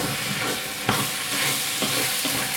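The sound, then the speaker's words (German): Food sizzles steadily in a hot pan while a utensil stirs through it, with a few sharper scraping strokes breaking through the constant crackling hiss. “So, und Leute, vergesst nicht zwischendurch immer noch wieder zu rühren, ne? Also, ein bisschen rühren ist das A und O, damit du das unten immer ein bisschen hochkriegst.”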